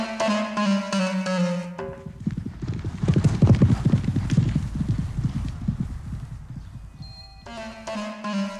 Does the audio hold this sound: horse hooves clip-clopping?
yes